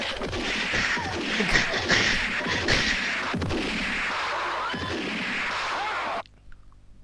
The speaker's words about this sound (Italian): Improvviso silenzio e poi gli sparo.